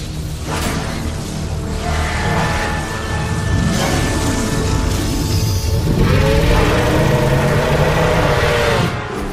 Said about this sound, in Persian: خانم ها و آقایان، حالا یک ماشین غول پیکر و مهیل. مراقب باشین، فن داره از هم جدا میشه.